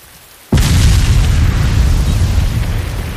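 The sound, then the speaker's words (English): A quiet moment breaks into a sudden, massive explosion of a small building storing cooking and lighting oil, swelling into a sustained, deep roaring rumble of fiery aftermath on a wet, windy, rainy night, continuing loudly with no voices. “The explosion in the small building that held the sticky supplies of cooking and lighting oil was devastating.”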